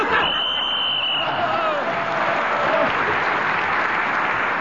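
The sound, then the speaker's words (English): An audience applauds and cheers, a dense, steady wash of clapping that stays loud throughout, with a brief high whistle-like cry near the start. “I hope they're cheering in the audience for that outrageous piffle and not for the content.”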